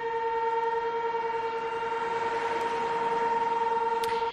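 A morning test of the Cecebre dam's acoustic warning siren for a dam rupture: a loud, steady two-tone blare holds one unwavering pitch for about four seconds, then cuts off abruptly, with no voices.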